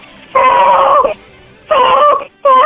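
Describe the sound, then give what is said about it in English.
A baby cries loudly in three long, wailing bursts separated by short breaths, the final cry cut off at the end. No one talks over it. “Oh, that's a baby!”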